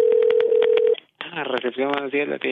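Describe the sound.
Telephone dialing tones for an international call placed from Norway: a steady tone with a quick series of short beeps for about a second, then a brief silence before a voice starts talking.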